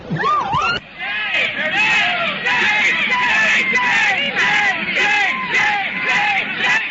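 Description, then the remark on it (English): A dense crowd yells and shouts continuously as New York City police cross the street and charge into it with clubs out at a Klan rally. Many voices overlap in loud, chaotic cries and whoops, sustained at high intensity throughout after a brief opening voice. “They have their clubs out. They're attacking the crowd.”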